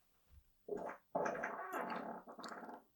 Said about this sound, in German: Moment, entschuldige bitte, ich muss furzen.